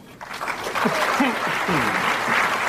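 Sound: parliament applause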